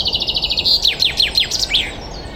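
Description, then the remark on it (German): A common chaffinch sings a bright song in early spring: a rapid run of repeated chirps that accelerates into descending trilled notes and ends with a flourish, with no talking. “Das ist jetzt der Buchfink.”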